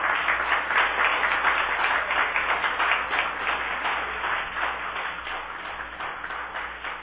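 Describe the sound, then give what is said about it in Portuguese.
Sustained applause from an audience, dense overlapping claps forming a steady, fairly loud crackling wash that stays even for several seconds before easing slightly toward the end. “As palmas são de apoio à sua luta.”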